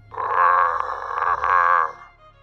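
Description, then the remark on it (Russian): A large brown plush toy bear is turned upside down and gives a soft, grunting growl: one buzzy, mid-pitched groan lasting about two seconds, rising in, wavering slightly, then fading out, with no voices. “Повернул медведя вниз вверх, и тот издал негромкий кряхтящий звук. Ну, рев типа.”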